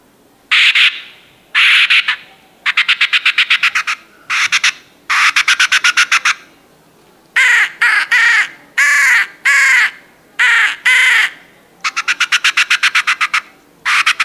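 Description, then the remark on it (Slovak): Crows and magpies give loud alarm calls, used as a lure to draw other magpies and crows in to attack an eagle owl so some can be hunted: harsh repeated caws mixed with rapid rattling chatter, coming in quick bursts one after another with brief gaps, no voices. “Teda robím tam krdel predátorov, ktoré výstražne sa ozývajú a lákajú tie ostatné predátory, aby tam prileteli a jednoducho nejakým spôsobom toho víra napadli a my môžeme niektoré odloviť.”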